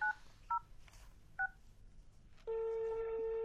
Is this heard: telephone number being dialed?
yes